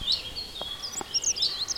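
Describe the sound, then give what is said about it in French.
A common chaffinch calls with a series of bright, high chirps repeating steadily through the moment, soft against a quiet, foggy outdoor background with a couple of faint clicks. “Il y a le cri du pinson proéminent.”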